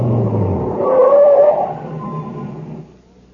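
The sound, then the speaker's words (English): A truck engine rumbles, with a brief whine as it slows, then the noise winds down and fades to near silence as the truck comes to a stop by a plant's reactor equipment building. “No, stop here, by the reactor equipment building. What for? Just stop the truck.”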